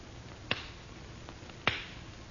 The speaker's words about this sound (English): I have only to clap my hands lightly, monsieur. Over the flame in the bowl.